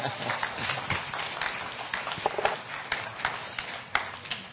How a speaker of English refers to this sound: We clap for people here. Let's just do that.